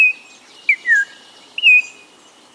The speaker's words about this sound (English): From a wooded thicket along the lower Rio Grande River comes a rich, whistled song. Your eye catches a flash of brilliant orange. There's the singer, an Altamira oriole.